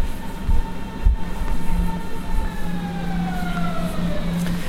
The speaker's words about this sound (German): Da kommen wir jetzt in S-Bahn.